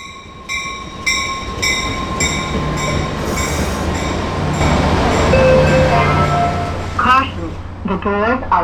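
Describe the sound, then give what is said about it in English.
A Caltrain commuter train running: a steady low rumble with high whining tones that swells louder midway, and brief voice-like sounds rising over the noise near the end. “He called me maybe 15 minutes ago to say he was waiting for a Caltrain at Millbrae.”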